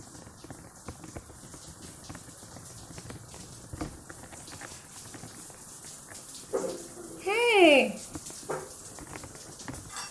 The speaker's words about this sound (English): I'm in the shower.